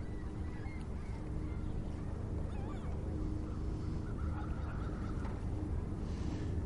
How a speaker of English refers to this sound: Talking. If you have any food, they're your best friend. Yeah, they're all kind of fat. The gulls here. They're spoiled rotten. Everybody feeds them popcorn.